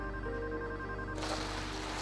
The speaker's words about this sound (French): il ne parvient même plus à répondre au téléphone. Paula Stropel, sa compagne, l'appelle en vain.